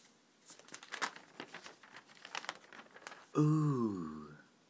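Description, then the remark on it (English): Rustling and crinkling of Cambridge News newspaper pages being turned, several quick papery swishes over about three seconds, followed by a short drawn-out vocal exclamation. “that was sounds, not deliberate sounds, but I'll keep them in there of pages turning.”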